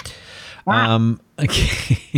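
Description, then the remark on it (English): A loud, harsh parrot squawk sound effect with a strained, tonal cry followed by raspy, scratchy screeches, prominent with no talking alongside. “Oh yeah, you've got the sound effects.”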